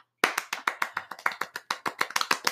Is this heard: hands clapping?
yes